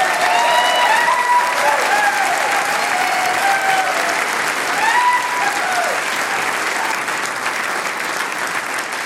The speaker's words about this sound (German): liebe Damen und Herren da im Saal, ich würde sagen, wir gratulieren dieser Gruppe einmal mit einem ganz, ganz besonderen Applaus.